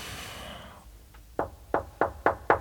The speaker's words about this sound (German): Du solltest einfach klopfen